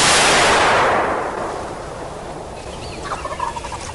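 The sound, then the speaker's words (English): A single loud shotgun blast, fired from an old 'Brownie' shotgun at a bronze tom turkey during a turkey hunt, whose rolling echo carries across miles of hills and hollers and fades slowly over about two seconds, followed by faint, brief warbling gobbles from a turkey. “The sound of the shotgun echoes across miles of hills and hollers.”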